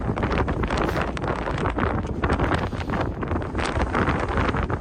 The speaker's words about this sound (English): Windy and cold, I think it's safe to say from that bit of audio.